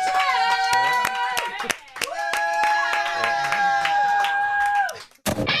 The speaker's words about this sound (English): Can we please have a control room round of applause? This man is here for the benefit of the human race. He's the best, isn't he?